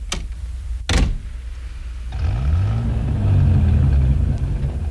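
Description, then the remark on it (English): Two sharp clunks ring out, then the engine of a Thunderbird car turns over and revs up, its rumbling pitch rising and holding steady. No one speaks. “Careful with the T-bird. The brakes need adjusting.”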